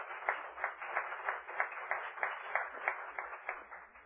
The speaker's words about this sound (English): I hope you could hear the applause that the audience gave to you a little bit.